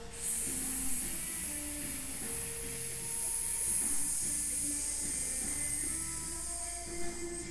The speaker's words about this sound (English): So just like a pressure cooker, just releasing any pent-up steam that you've been holding back. And just one more cycle like that, breathing in and then hissing the breath out.